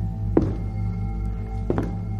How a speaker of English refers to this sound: We started across the living room towards the door when footsteps came from the kitchen.